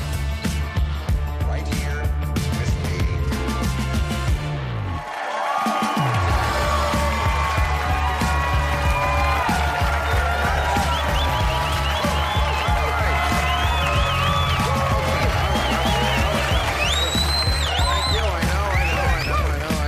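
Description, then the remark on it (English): The studio audience of HBO's late-night show Real Time with Bill Maher applauds and cheers loudly and steadily, with whoops and shouts rising over the clapping. The first part is the prompted applause, then the real applause. The roar dips briefly partway through, then swells back up and keeps going. “First is the fake applause, then the real one.”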